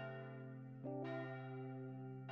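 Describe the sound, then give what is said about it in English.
A resonant bell tolls in slow, steady strokes, each long ringing tone overlapping the next, heard alone with no voices and a softened, somewhat distant quality. “The bell in the distance begins to ring just a little louder.”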